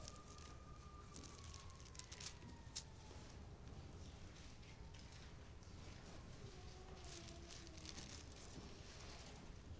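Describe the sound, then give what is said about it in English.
A faint siren wails with slow rising and falling tones, barely standing out from a steady background hiss and some intermittent clicks and rustles, with no one speaking. “Sitting here preaching, hearing that siren in the background.”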